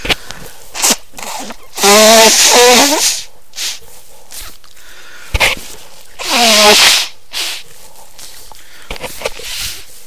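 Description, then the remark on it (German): Two long, loud nose blows a few seconds apart, each a wet, honking rush of air with a fluttering pitch, separated and followed by faint rustles and small handling sounds. “Ich putze mir mal die Nase.”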